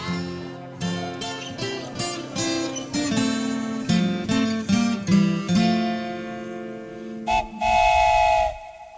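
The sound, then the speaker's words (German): A Schluff steam train on the Lower Rhine in Germany chugs along in rhythmic puffs under a chord of sustained whistle tones, ending with a louder, steady whistle blast. “Es schluft und dampft die Bimmelbahn, schluft vor Ohren an.”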